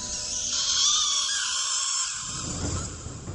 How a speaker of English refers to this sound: We see his eyes drift to the clouds as a beam of light shoots up from the building across town, revealing a shape of a rat in the sky, accompanied by the sound of a rat scream.